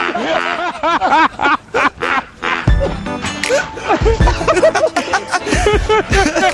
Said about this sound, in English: We shut the duck up now. We've started. Shut the duck up.